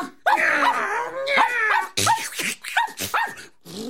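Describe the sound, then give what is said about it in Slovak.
A dog lets out a long, wavering whine, then a quick run of sharp, loud yelping barks in uneven bursts as it snaps at a fox, with no talking. “Kocúri pazúrik a psí zub chňap.”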